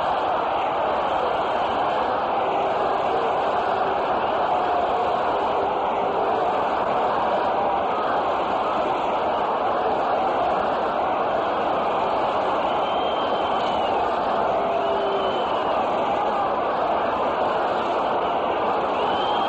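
A large baseball stadium crowd of Tiger fans roars in a steady, dense wash of cheering that carries on without a break, with faint whistles rising above the din now and then, as Colavito steps up to bat with runners on first and third and nobody out.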